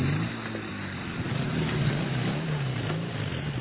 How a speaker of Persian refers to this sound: موتور روشن میشود.